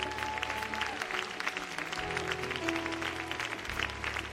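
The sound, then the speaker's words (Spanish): An audience applauds for the Lord Jesus during a preacher's sermon, dense overlapping claps filling the whole stretch at an even loudness, with a low sustained tone like an organ or keyboard humming underneath. “¿Cuánto le dan un aplauso al Señor Jesús?”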